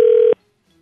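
A single steady electronic telephone tone sounds loud for about a third of a second, like one keypad press while dialing a call to Office Team, then cuts off abruptly into near silence.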